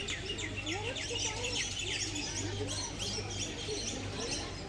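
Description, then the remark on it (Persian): A busy chorus of many birds chirping and trilling, dense overlapping high calls and twitters filling the whole stretch, moderately loud, with a low steady hum underneath. “اگر این پرنده ها بذارن، صدای خوشی دارن، آدم دلش نمیستشون قطع کنه.”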